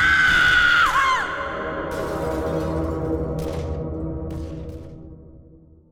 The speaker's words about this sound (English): they listened to the sporadic screams coming from the direction of Ed Jackson's general store